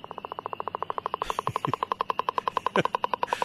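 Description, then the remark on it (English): Northern leopard frog calls: a loud, rapid rattling train of evenly spaced pulses running steadily throughout, with a faint background hiss and a few soft low knocks beneath. “You'll hear northern leopard frogs.”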